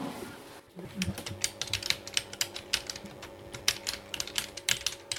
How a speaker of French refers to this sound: C'est un clavier d'ordinateur. Donc là, c'est pour faire les courriers.